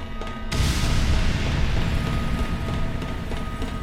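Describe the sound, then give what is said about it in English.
A sudden explosion bursts in and leaves a loud, deep rumbling roar that lingers for several seconds without fading much, with no voices present. “I shifted a bit to the right to get away from that left-handed explosion.”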